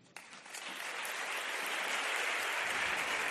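Applause from an audience bursts in and quickly swells into a dense, steady wash of clapping that stays loud and even throughout, with no voices over it.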